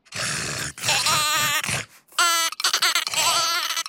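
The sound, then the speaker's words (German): Several loud sheep bleats follow one another, each a wavering, quavering cry with short pauses in between, with no talking. “Das Schaf will auch nicht mitspielen.”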